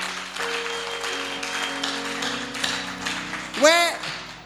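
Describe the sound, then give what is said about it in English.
A crowd claps steadily during a sermon, a dense, even patter of many hands over a low sustained tone, with a brief voice cutting in near the end. “No, no, you see, you are clapping, clap well.”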